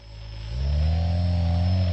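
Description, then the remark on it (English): The motors of a homemade drone, built from scratch by a hobbyist engineer in his workshop, whir as he tilts it: a steady low hum that rises in pitch and loudness about halfway through, then holds as a strong, even buzz with no voices. “So you see when I tilt it, you hear when I tilt it?”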